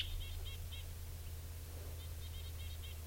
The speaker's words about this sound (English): I think that bird took off. Still around here. Now it's long gone. According, there's another bird here.